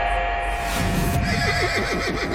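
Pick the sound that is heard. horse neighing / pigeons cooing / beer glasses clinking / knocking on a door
horse neighing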